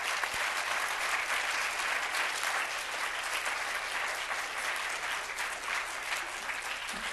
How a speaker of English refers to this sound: Nice round of applause.